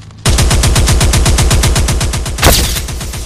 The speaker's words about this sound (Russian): И какого дьявола ты стрелял